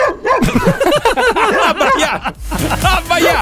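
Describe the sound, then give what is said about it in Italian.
A dog barks excitedly in a rapid, nonstop string of high, yappy barks and yips, loud throughout, with no pause between them. “Abbaiato. Basta, Birillo.”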